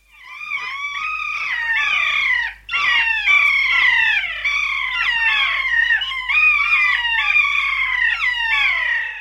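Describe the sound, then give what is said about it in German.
Loud, shrill calls of keas, mountain parrots, ring out in a rapid, continuous series of drawn-out, wavering screeches with no talking, filling the whole stretch with barely a pause. “Wir spielen an dieser Stelle mal kurz ein Kia ein.”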